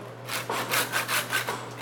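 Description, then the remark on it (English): A bone saw cuts through the vertebra while a blade roast is being butchered, in quick, steady back-and-forth strokes, about six rasping passes, over a faint low hum, with no one talking. “So I'm sawing through the vertebra here.”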